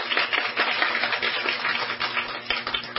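An audience applauds steadily for about three seconds, a dense, crackling wash of many hands clapping at once, fairly loud and even throughout with no voices on top.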